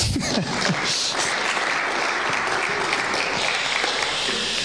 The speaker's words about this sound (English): Well, let's stand and let's pray. And if you want to clap, that's fine,